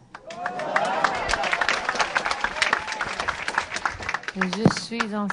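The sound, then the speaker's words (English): A crowd in Miami's Haitian community, the day after the presidential debate, claps and cheers steadily at Teresa Heinz Kerry's first word, dense rapid applause mixed with excited shouts and whoops. Near the end a single voice rings out above the ongoing clapping. “In Miami's Haitian community, the day after the presidential debate, her first word brought a cheer.”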